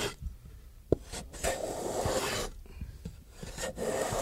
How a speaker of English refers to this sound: Planing a fingerboard.